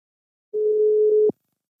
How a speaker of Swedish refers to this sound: Så vi ringer upp Sofie Paulsson på HS i Halland.